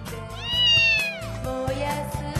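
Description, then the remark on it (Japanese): A single long, drawn-out meow from Masako, an overweight pet cat, rises and then falls, heard clearly over a steady, rhythmic music backing with a thumping low beat, in an advert for a new 40%-calorie-cut healthy cat food. “そんな猫ちゃんにはこれ、カロリー 40% カット、ヘルシーキャットフードを新発売。”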